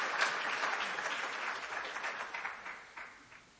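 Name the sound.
applause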